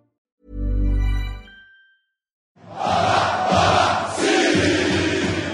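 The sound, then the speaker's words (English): A loud, low blaring horn-like blast, then a short silence, then a dense roar of thousands of Brazilian football fans screaming and cheering together at the airport in Rio de Janeiro, waving flags and holding up banners, sustained and surging at full volume. “The fans wave flags, hold up banners and scream their lungs out.”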